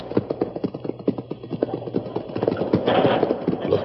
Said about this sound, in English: Suffering snakes. Them renegades are raising a door right out of the cliff wall. Yes, a door cleverly disguised with scrub and vines to resemble the rest of the wall.